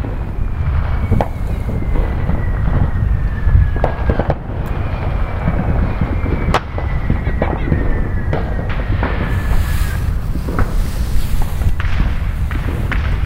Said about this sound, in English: we are outside. We're gonna sit down and listen to some fireworks.